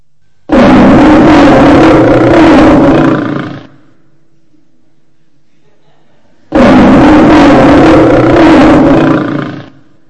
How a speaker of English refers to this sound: Now that would be a little bit more scary, wouldn't it? Not only is there a big roar, but you know that a lion has sharp teeth, and it has sharp claws, and if you heard that, you knew that it would want to eat you all up.